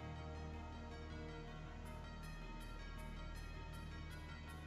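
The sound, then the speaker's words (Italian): Steady background music of an NFL song with bells ringing in it, bright strikes repeating at an even pace through the second half; nobody speaks. “E proprio in quel momento sono suonate le campane di questa canzone NFL.”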